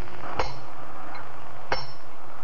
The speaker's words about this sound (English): Can you imagine what two men in such a situation would be talking about while one of them hammers life-giving steel pitons into the rock wall of the diamond face? Just listen. You are with them.